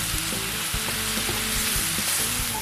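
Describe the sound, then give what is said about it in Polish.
Button mushrooms sizzle steadily as they are browned in a hot frying pan previously used to fry chicken, a loud, continuous crackling hiss, with soft scraping and stirring underneath. Nobody speaks. “Wrzucamy na patelnię pieczarki i podsmażamy je aż do zarumienienia”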